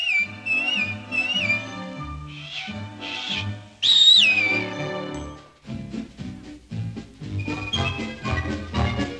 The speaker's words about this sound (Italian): Quando c'è una grana e tu non sai che cosa far, fai una fischiatina, fa una fischiatina.